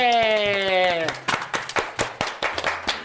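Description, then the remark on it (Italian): A brief sustained electronic tone gives way to a big round of applause, rhythmic clapping at roughly four claps per second, sharp, with no talking over it, during a live Radio Sei Forte broadcast from a summer camp. “Nuovo in diretta qui su Radio Sei Forte, un applausone.”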